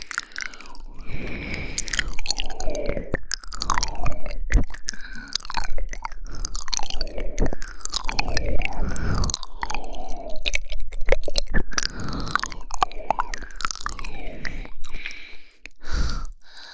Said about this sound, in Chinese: 那如果我还用嘴巴咬着冰块再撩拨你呢？